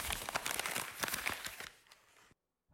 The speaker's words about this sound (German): Was steht denn auf dem Papier? Gib mal her.